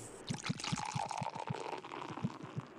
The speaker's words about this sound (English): Pour me a drink. Can we get him a beverage?